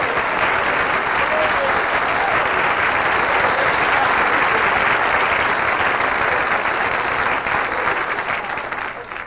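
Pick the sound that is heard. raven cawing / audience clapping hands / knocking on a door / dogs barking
audience clapping hands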